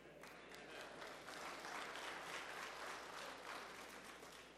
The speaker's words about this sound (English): I'm fretting because they're clapping, Pastor.